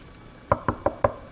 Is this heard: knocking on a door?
yes